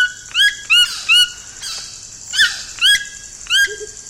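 A toucan gives a series of about seven harsh, croaking calls in a loose rhythm, loud, over a steady hiss of insects or forest ambience.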